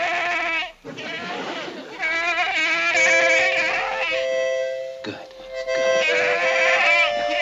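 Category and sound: animal, goat bleating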